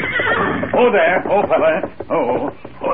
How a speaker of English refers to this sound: Look, Kemosabe. Horse without rider, grazing along trail ahead.